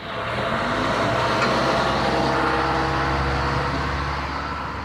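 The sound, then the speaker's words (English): A steady, loud rumble of street traffic with a droning motorcycle taxi (boda boda) engine running throughout, its low hum holding constant over a dense wash of road noise, on a rainy Tuesday in Mombasa, Kenya. No one speaks. “I have alighted from public transport matatu to take a public transport motorcycle, commonly known as boda boda, to the area known as Katisha.”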